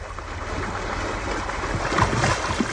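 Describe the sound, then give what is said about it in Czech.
A small rowing boat on open water, with a steady wash of lapping water and breezy wind noise that swells slightly toward the end. No voices. “Snadná pomoc. Tady je loďka.”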